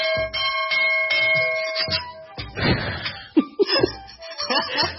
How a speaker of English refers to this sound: What is it? Dinner's ready. The gong from the Philippines.